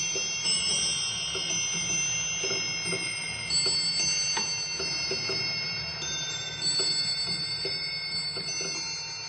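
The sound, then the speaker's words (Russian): An antique musical clock at Pavlovsk, its music mechanism made by unknown Russian craftsmen, plays its hourly tinkling, bell-like melody from Monsigny's opera "The Deserter", bright metallic notes ringing and overlapping steadily over a low mechanical hum, with no one speaking. “Каждый час они исполняют мелодию из этой оперы.”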